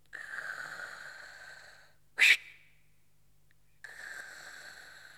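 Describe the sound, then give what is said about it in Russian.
Heavy, wheezy breathing of a patient told to breathe: a long raspy breath, a short sharp loud burst like a snort, a pause, then another drawn-out wheezing breath. No talking. “Вы ведь прекрасно знаете, что от вас требуется. Дышите.”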